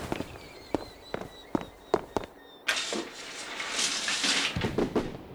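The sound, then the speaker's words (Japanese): Fireworks from the neighbouring town's fireworks festival go off in a string of sharp booms, about seven spaced pops followed by a broader crackling, rumbling burst that fades, with no voices present. “隣町の花火大会だな。”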